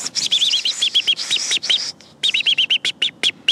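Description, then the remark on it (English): An American robin's alarm call: sharp, high, repeated chirps and piercing notes in rapid bursts, loud and insistent, with a brief pause before the agitated series resumes. “Robin's alarm? Yeah, know that one.”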